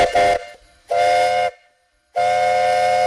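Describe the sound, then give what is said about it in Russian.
An old wood-fired steam tractor whistle blows three loud, steady blasts separated by short pauses, a bright high-pitched shriek with a hissing edge and low rumble beneath. No one speaks. “Этот звук парового трактора не отличить от паровозного, да и от пароходного.”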